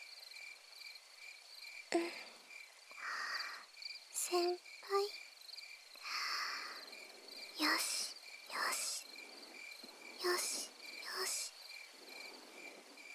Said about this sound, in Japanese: 意識は鈴虫の鳴き声や子守歌に雨音の中に紛れて、一緒になってうちの声も溶け込んでいきます。